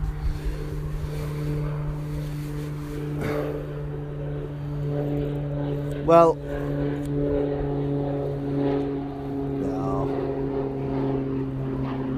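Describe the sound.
A propeller aircraft with RAF badges, apparently a commemorative plane, drones steadily overhead while practising coming down to land and then pulling away again; its engine hum is strong and constant with a rough, throbbing tone while a person briefly speaks.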